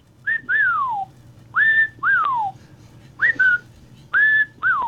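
A person and a pet cockatiel trade short whistles back and forth, about four exchanges of steady notes followed by downward-sliding calls, clear over a low background hum.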